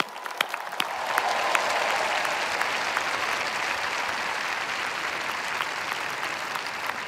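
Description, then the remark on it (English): A large audience at a Stanford graduation on Father's Day breaks into sustained applause for the dads, dense clapping swelling quickly and holding steady for several seconds, with a few scattered louder claps standing out. “Here on Father's Day, let's give the dads in particular a round of applause.”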